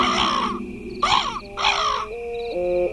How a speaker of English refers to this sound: Pluto began to bark, and the shadows disappeared.